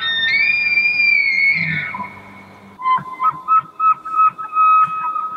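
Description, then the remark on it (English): An elk bugles with a long, high, whistling tone that slides and holds, followed by a series of rhythmic grunting chuckles layered under a steady high whistle. “I think they were saying that a lot of them are making a lot of noise, like right around sunset or sundown.”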